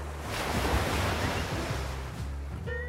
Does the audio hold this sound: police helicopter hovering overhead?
no